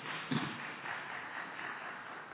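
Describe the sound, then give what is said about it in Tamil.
A Christian audience claps for the Lord during a Tamil sermon, in a steady, dense patter of many hands, sustained throughout with no voices over it. “ஆண்டவருக்கு கரங்களை தட்டுவோம்.”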